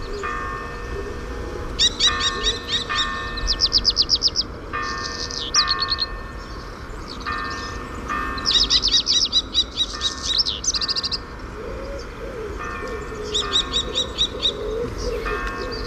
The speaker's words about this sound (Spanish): Ahí está el cernícalo.